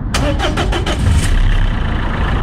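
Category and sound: vehicle, car engine starting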